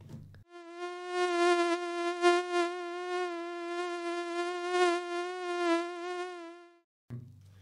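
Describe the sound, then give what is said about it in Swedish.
A mosquito's high, steady whine drones continuously for several seconds, wavering slightly in pitch and loudness before cutting off abruptly, with no voices over it. “En varmare kropp drar till sig mer myggor.”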